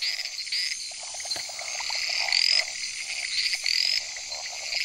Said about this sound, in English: These large tree frogs spend most of their lives on the high canopy and only come down when it's time to breed.